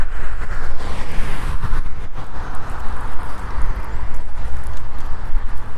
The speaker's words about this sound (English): It is windy out here this morning.